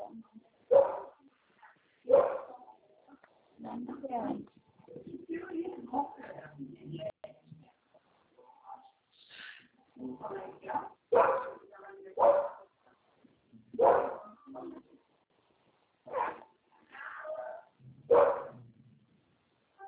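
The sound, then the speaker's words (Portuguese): A small female dog barks and whimpers with her puppy in a string of short, uneven bursts, moderately loud, with brief pauses between yelps and some higher whiny cries mixed in. “Cachorrinha da banda, ela cantou com o cachorrinho dela.”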